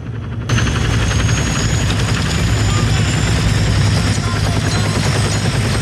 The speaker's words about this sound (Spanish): A bordo de un pajarraco cercano, la tripulación del patrullero observa cómo un helicóptero desciende sobre su lancha.